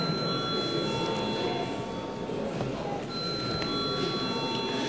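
A parliament bell rings continuously before the final third-reading vote on a dangerous goods transport bill, a steady electric ringing with a buzzing, rattling edge that holds unbroken for about five seconds, with no talking over it.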